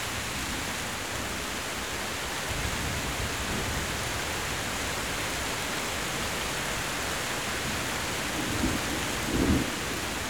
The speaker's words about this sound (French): Le vent a fléchi. Et la pluie semble baisser d'intensité.